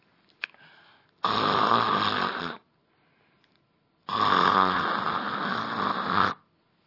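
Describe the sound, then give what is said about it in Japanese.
A voice imitates loud snoring as shop workers sent to bed early pretend to sleep: two long, rasping snores, each a couple of seconds, separated by a quiet pause, with no talking. “みんな、そうやっていびきをかいてますが、 本当に寝たんですね。”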